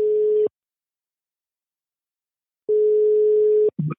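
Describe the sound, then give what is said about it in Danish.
A steady electronic ringback tone of an outgoing phone call sounds in two long pulses separated by a pause of silence, clear, ending abruptly with a brief click as the call connects. “der har jeg tænkt mig lige at prøve at give Andreas Steno, som lavede det her interview, et opkald”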